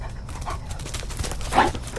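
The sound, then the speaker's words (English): A 90-pound German Shepherd dog charges toward a woman, its paws thudding in a quick, steady rhythm over a rough, noisy background, with a short sharp bark near the end. “90 pounds of German Shepherd dog is hurtling toward AKC staffer Stephanie Smith”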